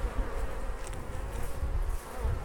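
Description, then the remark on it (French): A dense, steady drone of many honeybees buzzing together around a hive, continuous, with no talking. “Une ruche, en fait, c'est un groupe d'abeilles. Hein, c'est un essaim.”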